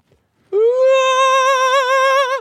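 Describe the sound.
A lone voice belts a single high, sustained note, scooping up at the start and wavering into strong vibrato for about two seconds, loud with no accompaniment, demonstrating a rising diva-style key change.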